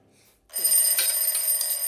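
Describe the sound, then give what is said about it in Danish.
A kitchen timer, set while food bakes in an oven, lets out a loud, continuous metallic ringing that starts abruptly after a brief quiet moment and rings steadily to the end, with no talking. “Så sætter vi uret.”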